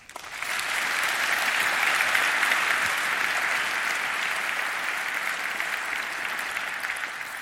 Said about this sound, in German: Ein großartiger Applaus für die beiden.